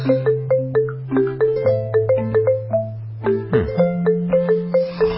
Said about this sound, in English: Yeah, I guess it's a lot of bells, a lot of instruments that little kids play themselves. I'm waiting for some recorder or something. Right. So they take pop songs from big artists and then they make it into a lullaby